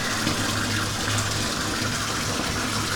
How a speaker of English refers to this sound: Turn the damn water out.